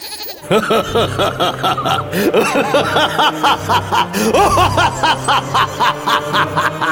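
A monstrous creature cry blended with billy goat bleats, loud and continuous, with rapid wavering, stuttering calls layered over a deep rumbling undertone for several seconds.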